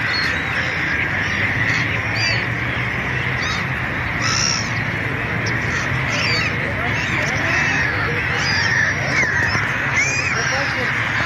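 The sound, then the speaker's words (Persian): A dense flock of birds calls continuously while flying over the dried-up Zayandeh River in Isfahan, Iran, with harsh caws and overlapping chatter layered over a steady background murmur that stays loud and unbroken from start to finish. “باز هم ویدیویی از خشکی زاینده رود اصفهان در این فصل سال و پرندگانی که بر فراز رود خشک پرواز میکنند.”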